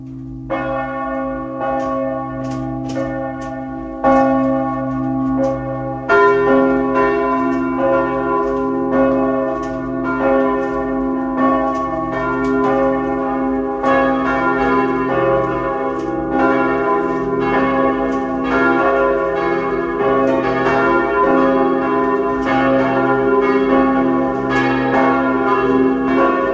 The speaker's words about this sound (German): Es ist 12 Uhr. Sie hören die Glocken der Stadtpfarrkirche Bleiburg in Kärnten.